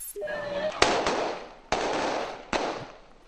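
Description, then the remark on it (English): Haitian police chase away a crowd that was breaking into a store. Three or four loud, sharp bangs like gunshots ring out at uneven intervals over a dense, noisy commotion, with a brief high tone at the start. “The sound there of Haitian police chasing away a crowd that was breaking into a store.”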